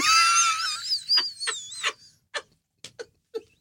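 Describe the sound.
A high, wavering scream held for about a second, voiced by an adult mimicking a shrieking child, then trailing into several short, breathy yelps spaced out with brief pauses.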